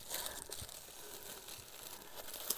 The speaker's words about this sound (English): I have them stuffed with plastic bags.